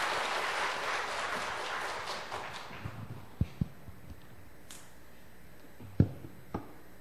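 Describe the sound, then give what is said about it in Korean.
A crowd applauds briefly after a call to attention and a bow, a dense patter of clapping that fades out within a few seconds, followed by quiet with a few isolated sharp knocks. “차렷, 경례, 박수하겠습니다.”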